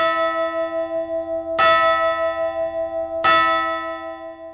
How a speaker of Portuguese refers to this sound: O choque de metal com metal nos sinos das igrejas sempre teve múltiplas funções. Desde a mais comum, que é avisar as horas, até uma comunicação complexa com os fiéis, chamando para as missas ou anunciando comunicados urgentes.